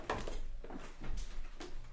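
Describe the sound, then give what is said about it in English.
A door to a podcasting studio is shut, with a few muffled knocks and shuffling bumps spread over a couple of seconds against a low background rumble, and no one speaking. “And I forgot I need to go close a door.”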